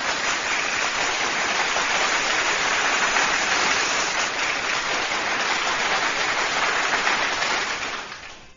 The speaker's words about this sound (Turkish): Yüreğine, gönlüne, kalemine sağlık. Kocaman bir alkış o güzel yüreğine, kalemine